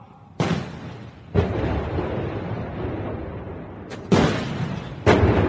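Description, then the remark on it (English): Ceremonial cannons fire in Beijing, part of a 100-cannon salute marking a century of China's Communist Party: four heavy booms spaced a second or more apart, each sharp report trailing into a long rolling echo that fills the gaps. No one speaks. “A 100-cannon salute in Beijing today to mark a century of China's Communist Party.”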